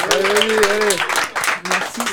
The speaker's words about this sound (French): On peut peut-être la rencourager avec quelques applaudissements pour ce baptême du feu.